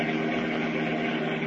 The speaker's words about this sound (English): And as we continue now, they are speeding along a country highway in their powerful Batmobile. Listen.